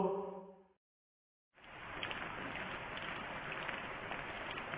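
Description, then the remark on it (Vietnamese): A short tonal note fades into a brief silence, then steady rain starts up and keeps falling, an even hiss with faint patter running to the end. “Vì những trận mưa liên tiếp nên đồng bằng phía đông sông Giô-đan trở nên như một đầm nước,”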